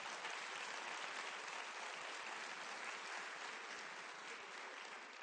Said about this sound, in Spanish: Dale un aplauso a la mamá, que es muy linda.